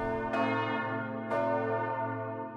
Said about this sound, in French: Dans ce local régie, un automate qui est situé juste derrière qu'on voit pas, mais qui contrôle les teinteurs des cloches, donc du coup le dispositif qui vient taper contre les cloches et faire ding.